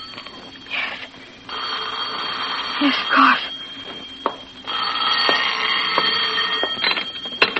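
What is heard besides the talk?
telephone ringing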